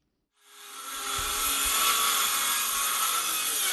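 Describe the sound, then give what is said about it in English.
Power drills whine steadily and loudly after a brief silent start, a dense high-pitched mechanical roar with low thumps underneath, continuing without pause, in the village of Guidemartin, Senegal, about 100 km from Dakar, during construction of a school and a well. “The roar of power drills fills the air in the village of Guidemartin, a typically quiet community of 2,000 people located some 100 kilometers from the Senegalese capital of Dakar.”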